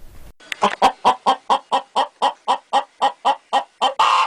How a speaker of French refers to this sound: La poule caquette.